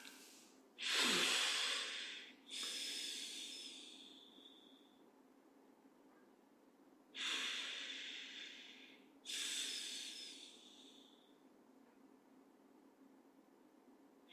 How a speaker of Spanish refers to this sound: Hacemos un par de respiraciones profundas.